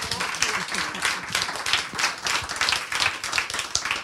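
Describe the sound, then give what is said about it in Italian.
An audience at a talk applauds a guest, clapping steadily and densely for several seconds, many hands overlapping into a continuous wash of applause at moderate loudness, with no voices standing out. “dato che gli applausi di Alea Melandri secondo me non sono mai abbastanza, ne facciamo un altro”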